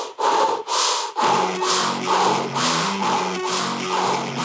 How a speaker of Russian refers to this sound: глаза сейчас зажмуриваем, дышим ртом вот так.